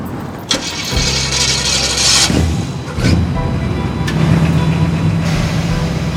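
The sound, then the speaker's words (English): A convertible car's engine cranks for a couple of seconds, catches with a loud rev, then settles into a steady low rumble as the car pulls away to head down Whittier Boulevard, with no voices. “We got in the car to head to Whittier Boulevard.”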